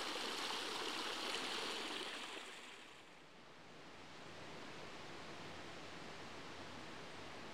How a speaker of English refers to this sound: Let's follow this stream down towards the river and see what more follies may await us in the woods beyond.